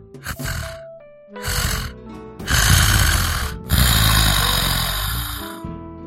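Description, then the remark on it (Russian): Loud, rasping snoring of a sleeping woman, several long rattling breaths in a row, each with a rough multi-part texture and short gaps between them. “Мадам спала и роскошно храпела, издавая классический многочастный храп, известный тем, кому выпадает счастье слушать его каждую ночь, как”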